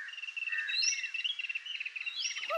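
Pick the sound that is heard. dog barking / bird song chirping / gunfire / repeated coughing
bird song chirping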